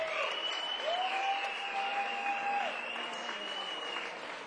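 Dense, steady applause from a concert audience after a live band performance fills the whole clip, with a sustained high whistling tone and a lower held tone riding over the clapping.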